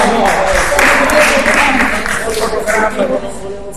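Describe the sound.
An audience applauds steadily for a few seconds, a dense, loud wash of many hands clapping at once, with some crowd voices mixed in beneath it.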